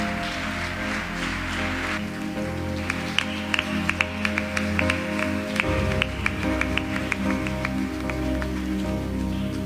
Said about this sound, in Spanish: ¿Cuántos dicen amén? Dale un fuerte aplauso al Rey de Gloria.